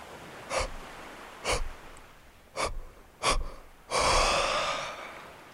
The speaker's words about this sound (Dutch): Probeer te gapen. Nog een keer. Adem diep in, rek je uit, knijp je oogleden stijf samen en beweeg de onderkaak. Gapen.